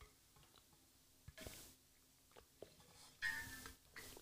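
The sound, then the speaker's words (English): Quiet sipping of water: two short, airy slurps separated by soft mouth clicks and faint swallowing sounds, with no talking. “If you guys don't mind for a second, I just got back from the gym, so I'm going to take a sip of my water real quick.”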